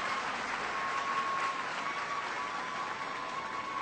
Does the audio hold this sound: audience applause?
yes